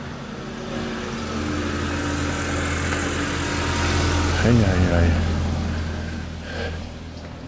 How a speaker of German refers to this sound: Meine Güte, ein Verkehr.